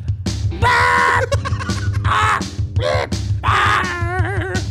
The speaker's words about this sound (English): Not bad, guys. I do like how the chorus is sung by a bird.